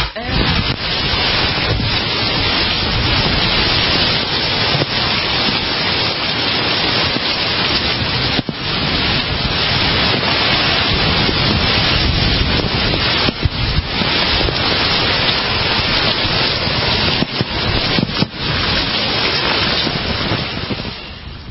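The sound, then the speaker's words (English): Heavy rain pours down in a strong wind, a loud, unbroken roaring hiss that surges briefly now and then, with no voices. “So that's kind of what it sounds like in some of the areas where this rain has hit.”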